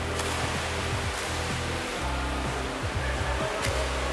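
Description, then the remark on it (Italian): Steady rushing and churning water with a few brief splashes breaking through as a person dives into a swimming pool and starts swimming, fairly loud throughout with no voices. “Mi immergo in piscina e inizio a nuotare.”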